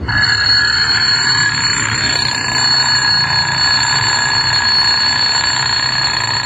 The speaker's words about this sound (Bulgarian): Гласът на будилника, който ви измъква от съня и отваря клетките ви, също не е обикновен глас. В него има една куковичка, едно наперено педле, шепот на планинска рекичка и звън на медна камбанка.